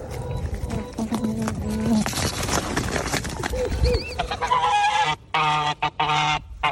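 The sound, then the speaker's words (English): A small white domestic goose with an orange beak squawks and honks repeatedly in harsh, nasal bursts, loud, with a few short gaps near the end and some background rustling. “That's the slightly irritating squawk of a normal goose.”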